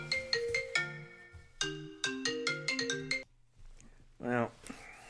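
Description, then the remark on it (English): A bright electronic phone ringtone plays a quick melodic jingle of clear tones, repeating the phrase twice, then stops, followed by a short vocal sound. “Even when I cut off my phone, it still causes issues.”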